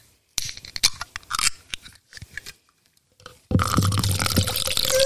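Sipping of craft beer: a series of wet slurps and mouth clicks, followed by a steady, loud fizzing, liquid rush. No one speaks.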